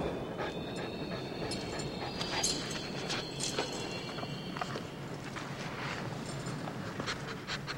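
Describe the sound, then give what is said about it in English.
A dog sniffs and pants in quick, uneven bursts while smelling a sweater to pick up a scent trail, over a steady rumbling background, with no one speaking. “So get a stupid dog, the stupid sweater to smell, and let's see what happens.”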